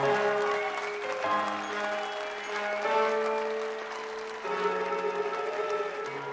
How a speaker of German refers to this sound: Und darum Applaus für Monsieur Voland!